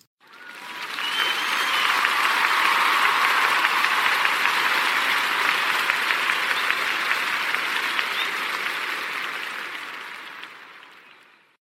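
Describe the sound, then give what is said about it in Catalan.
Loud, sustained applause from a crowd, a dense wash of many hands clapping that swells quickly, holds steady for several seconds, then gradually fades out. No voices are heard. “Els enviem aquest fort aplaudiment!”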